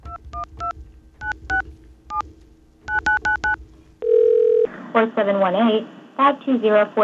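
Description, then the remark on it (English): A rapid series of touch-tone keypad beeps in short clusters, followed by a brief steady phone tone, after which a voice begins speaking over the line. “We have a dial tone here?”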